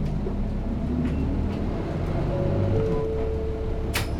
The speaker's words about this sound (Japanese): ご乗車ありがとうございます。このバスは、新原経由、茨城前駅でございます。次は、伊調坂、伊調坂。